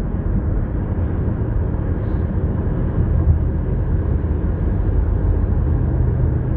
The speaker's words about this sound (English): I got a plane in front, airplane in front of me. I got crossing. I got cars and traffic crossing. I got a bridge right here, traffic crossing.